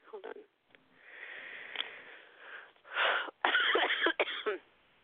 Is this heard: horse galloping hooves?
no